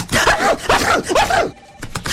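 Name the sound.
sneezing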